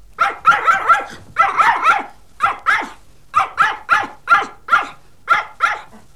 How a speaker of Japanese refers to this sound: あたり、犬さんね。